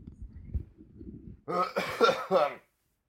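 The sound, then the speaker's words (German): A low, muffled rumble, then someone clears their throat loudly in a few rough, raspy bursts lasting about a second before it goes quiet. “ich räusper mich jetzt noch einmal.”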